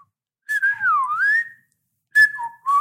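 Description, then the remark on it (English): Odd, warbling human whistling: a long wavering note that dips and rises, then after a short pause a second burst of sliding, uneven tones, clear with no talking. “Yeah, just weird whistling.”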